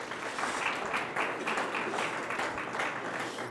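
A crowd applauds steadily for several seconds, a dense, even wash of many hands clapping at a consistent loudness with no voices standing out.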